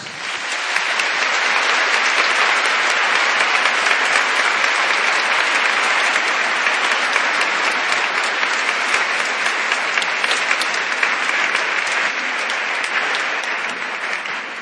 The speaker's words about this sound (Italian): Bene, facciamo anche fare un applauso, eh?